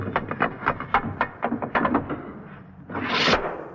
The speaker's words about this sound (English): This jovial sound effect was accomplished by the sound man on the Bishop and Gargoyle show, running a piece of metal up and down the side of a door to produce the sound of a guillotine knife falling.